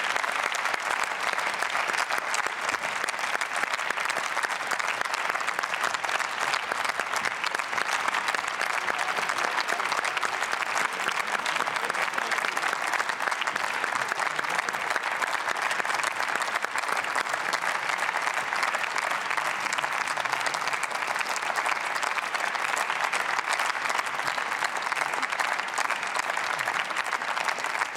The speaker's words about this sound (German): Die freuen sich sicher über den Applaus, aber die würden sich noch viel mehr freuen, wenn wir die Sitzungsabläufe nach der Sommerpause verkürzen könnten.